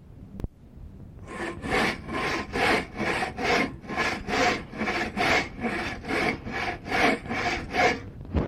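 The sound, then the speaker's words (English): A handsaw cuts through old barn wood in the country in steady back-and-forth strokes, each pass a loud, raspy scrape repeating about twice per second, preceded by a single sharp knock. “You know, one thing about sawing wood around here in the country, you can tell if you're sawing barn wood or not.”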